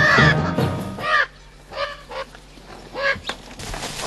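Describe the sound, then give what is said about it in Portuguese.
Loud, harsh squawking calls from a flock of macaws beside a cornfield, several overlapping bursts near the start, then scattered raucous cries over a low steady hum. “usa um saco plástico como arma para afastar as araras.”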